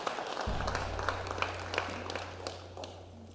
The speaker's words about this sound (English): Did you receive anything from that this morning? Come on, give the Lord a round of applause if you receive anything from that.